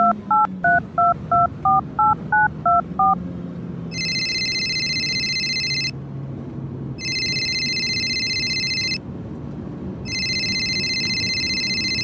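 telephone keypad dialing tones

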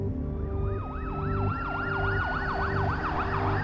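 ambulance siren

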